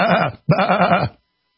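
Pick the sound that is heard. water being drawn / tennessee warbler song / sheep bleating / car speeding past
sheep bleating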